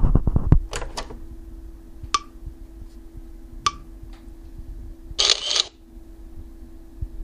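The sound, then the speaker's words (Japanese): A ClearView Plus, a standalone camera-type audio reading machine, captures a page: a few sharp mechanical clicks and short beeps over a steady low electronic hum, ending with a brief burst of shutter-like noise. “クリアビュープラスもカメラ型の単体型音声読書機です。”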